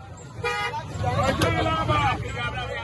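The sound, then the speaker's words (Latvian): Several car horns honk in quick, overlapping bursts over a steady rumble of city traffic in Lagos, Nigeria. The honking is fairly loud, with a brief sharp toot standing out near the middle. “Lagosā ir divas galvenās gaisa kvalitātes problēmas – automašīnas uz ceļiem un ģeneratori mājās.”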